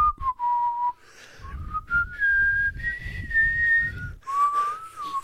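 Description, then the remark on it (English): A person whistles a movie theme tune, slow and melodic, holding long notes that rise and fall, with soft breathy rumbles underneath and no talking. “I was trying to whistle the the Lord of the Ring theme.”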